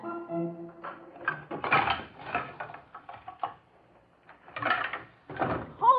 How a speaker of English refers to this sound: Making all that racket, Dippy Dwarf. Oh, good morning, Barbecue Pig. The noise? Oh, they're just moving a piano up to the frog's room.